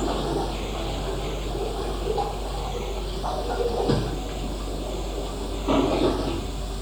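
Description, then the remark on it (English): A steady, broad rush of wind blows continuously with little change in level, a low rumbling roar with a few faint knocks and gusty swells along the way. “I love the wind.”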